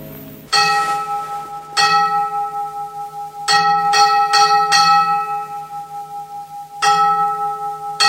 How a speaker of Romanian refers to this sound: Da, Mr. Clenham, așa sună clopotul închisorii.